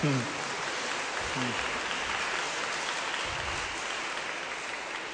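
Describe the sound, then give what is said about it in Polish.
A crowd applauds steadily for the full five seconds, a dense, even wash of clapping that neither swells nor fades, with a couple of brief voice fragments buried underneath. “Brawa, brawa, tak, brawa.”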